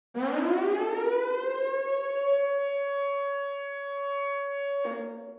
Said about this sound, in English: We also hear a pretty abrasive siren, a warning signal, something certainly out of place in a traditional love song.